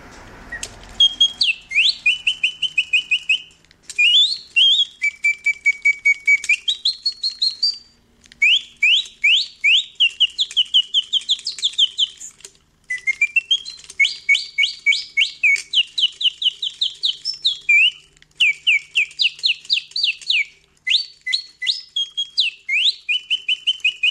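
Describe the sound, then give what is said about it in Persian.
A mechanical singing-bird device, built in 1890 by the inventor Bontems in Paris, warbles a long, continuous birdsong imitation: rapid high trills and sweeping whistled notes in repeated bursts with brief pauses, clear, with no talking. “حتما پیش خودتون فکر کردید که این صدا متعلق به یک پرنده آزاد یا در قفسه، ولی باید بگم که این در سال 1890 از یه دستگاه کاملا مکانیکی که توسط مخترعی به نام بونتمز در پاریس ساخته شد تولید شده”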